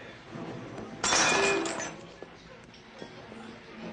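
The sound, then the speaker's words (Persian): Drinking glasses are smashed: a sudden crash of breaking glass erupts about a second in, bright and clattering, then fades into scattered tinkles and small clinks under quiet background murmur. “طلب لیواناتونو خورد و خاک شیر میکنم.”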